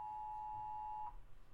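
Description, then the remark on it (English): A steady electronic Amber Alert tone for Pasco City, Washington sounds from a phone, holding for about a second, pausing briefly, then starting again. The beeping is fairly faint, with no voices. “Amber Alert on phones.”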